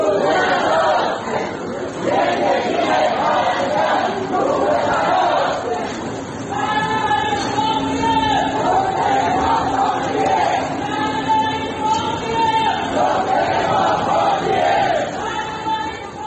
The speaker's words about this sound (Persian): استان البرز شاهد شکلی حرکت‌های اعتراضی در خیابان بود. بنابر گزارش‌ها گروهی از معترضان روز دوشنبه کادر درمانی بیمارستان امام خمینی بودند که با تغییر یک شعار قدیمی فریاد می‌زدند: عزاست عزاست امروز، روز عزاست امروز، زندگی پرستار روی هواست امروز.